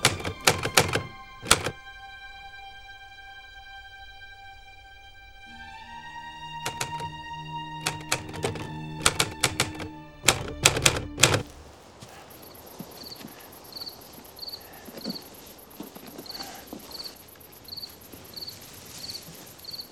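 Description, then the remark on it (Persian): Short bursts of MG42 machine gun fire crackle in quick runs, first at the start and again midway, then give way to a steady chorus of chirping crickets. “MG42؟ آره.”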